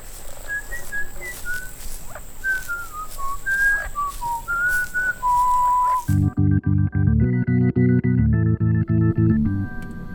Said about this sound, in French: Et vous entendez cette voix? Oui, c'est sifflement. Bah, c'est peut-être un oiseau. Ça m'étonnerait. Trop élaboré. En tout cas, ça vient de l'intérieur de l'île.